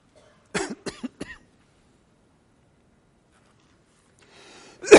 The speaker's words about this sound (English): Excuse me this morning. I got the cough back. I don't know why.